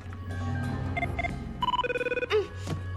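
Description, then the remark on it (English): An electronic telephone rings with repeated trilling bursts, short warbling tones cycling rapidly, clear over a low background hum with no voices, as a call is patched through to Kim in Tech One. “But Guile's attention is on Adam, patching through a call to Kim in Tech One.”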